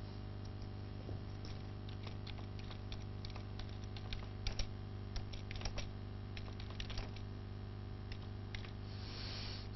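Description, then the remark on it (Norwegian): Quiet, irregular clacking of someone typing on a computer keyboard, with bursts of quick keystrokes and short pauses over a steady low hum, no voices. “Jeg skriver det med en tekst, ja.”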